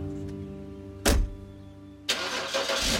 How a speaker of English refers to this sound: We hopped into the car and took off. It was early morning, the sun was just rising.